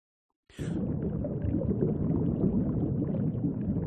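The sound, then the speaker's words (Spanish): A radio sound effect of water: half a second of silence, then a sudden splash breaks into a steady, loud churning of water, a dense low rumble of sloshing and bubbling that continues without pause. No voices are heard. “Aquí estamos metidos dentro del agua. Da la sensación, la magia de la radio, sí.”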